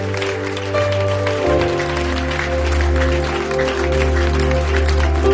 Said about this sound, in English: Let's give the Lord a big clap offering.